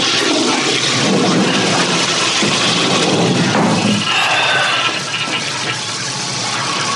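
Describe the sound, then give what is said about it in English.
A toilet flushes: a loud, steady rush of water for several seconds, shifting partway through into a swirling drain and a softer hissing refill, with no one talking. “No, toilet still works.”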